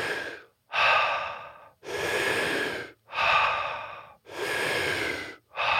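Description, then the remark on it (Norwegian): Loud breathing in a continuous circular breathing cycle: strong, airy active inhales flow straight into relaxed, passive, slightly shorter exhales, about five breaths with barely any pause between them. No talking. “Så vi skal puste i en sirkel, sånn, så det liksom innpust aktivt.”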